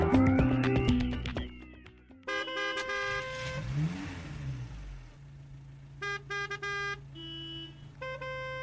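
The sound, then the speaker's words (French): Several car horns honk in a busy traffic jam where a luxury car with a driver sits stopped, with long blasts and short repeated toots overlapping against a low rumble of idling engines. “Un embouteillage, une voiture de luxe à l'arrêt, un chauffeur.”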